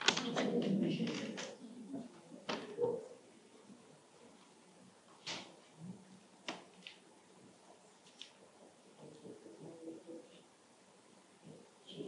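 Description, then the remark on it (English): A sheet of paper being handled, with scattered soft crinkles and sharp rustling snaps spaced irregularly, plus a low murmur of voice at the start. “Ah, it's now a sheet of paper, is it?”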